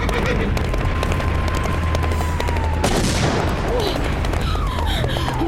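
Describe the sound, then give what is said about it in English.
A heavy shot from a cannon mounted on a big armored vehicle booms out midway through a dense, steady roar of battle noise, with scattered gunfire and whistling tones layered throughout. No one speaks. “Is that a cannon sticking out of it?”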